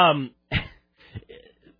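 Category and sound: human body sound, coughing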